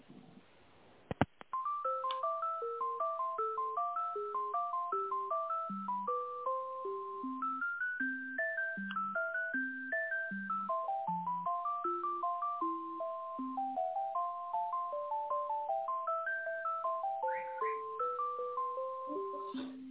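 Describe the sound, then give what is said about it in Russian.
A click, then a steady melodic run of electronic telephone tones over a narrow phone line, stepping up and down in pitch without pause, as a call is transferred to a company's contract department. “Я вас на контрактную службу переключу.”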